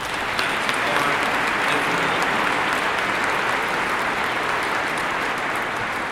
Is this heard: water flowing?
no